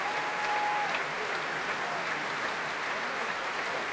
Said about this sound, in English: Ruby Hughes enjoying every minute of this, blowing kisses to the audience and now warmly applauding the players of the BBC Symphony Orchestra, led tonight by Daniel Rowland and conducted by Osmo Vanska.